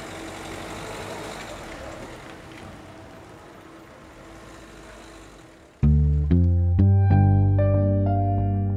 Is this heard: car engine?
yes